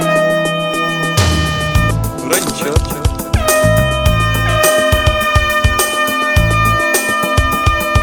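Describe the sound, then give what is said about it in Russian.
A loud, blaring klaxon horn plays a rhythmic solo of repeated honking blasts over a pounding musical beat with heavy bass. “А мой сосед алкаш мне подарил клаксон.”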